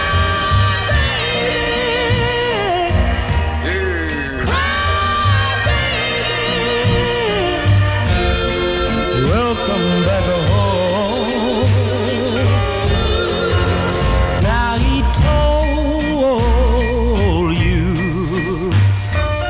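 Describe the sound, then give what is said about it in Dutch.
An original 1960s soul song recording with an impassioned, wavering lead vocal over a dense band of bass, backing harmonies and steady beat, playing loud and continuous throughout. “Even een klein stukje van de originele versie.”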